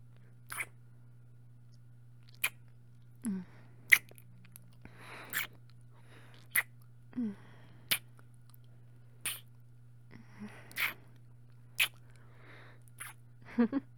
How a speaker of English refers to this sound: Now come here. Hey, I didn't say you could pull away. I want more kisses.